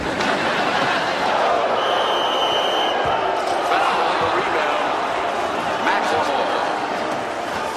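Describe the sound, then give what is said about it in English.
A large crowd at a basketball game in an arena boos in a loud, steady roar of many voices that fills the space throughout, with a few sharp thumps breaking through the din. “Oh, you got that from all the booing, huh?”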